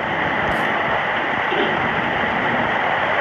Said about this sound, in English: Look at the water pouring off of my grandpa's roof. This is insane rain that we're getting.